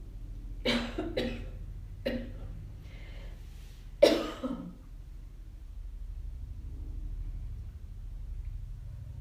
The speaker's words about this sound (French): Vous pouvez noter la fin de la toux que nous entendons, la fin du tracteur ou de l'avion dehors, quand il s'arrêtera.